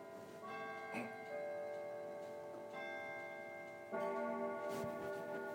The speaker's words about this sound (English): Clocks are chiming.